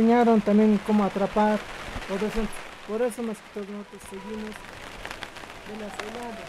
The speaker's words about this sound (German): fallen dicke Tropfen auf das Plastikdach des Gewächshauses. Der Regen wird immer stärker.